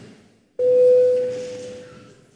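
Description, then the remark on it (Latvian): A single steady electronic bell tone sounds abruptly in a parliament chamber, rung to call a vote, and holds for well over a second, a clear pure pitch that slowly fades against a quiet background with no talking. “Lūdzu zvanu.”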